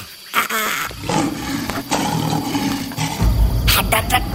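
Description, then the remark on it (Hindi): A lion lets out a deep, rumbling roar in a jungle at night that swells and sustains for several seconds, loud, with no voices over it. “ये क्या था? शेर की दहाड़ है।”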